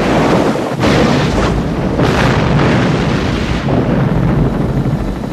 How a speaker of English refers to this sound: The boat explodes into a 50-foot mushroom of fire.